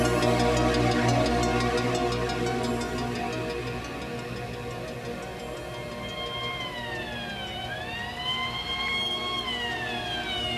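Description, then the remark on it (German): An ambulance siren wails over a steady background rumble as the ambulance leaves a junkyard, its rising and falling tones sweeping in partway through and bending as it passes by, with no one speaking. “Eine gute halbe Stunde später verließ ein Krankenwagen den Schrottplatz.”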